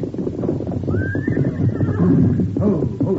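A horse gives a single drawn-out whinny, fairly loud, rising then trailing off over a busy background of low rumbling and shuffling hoof noise.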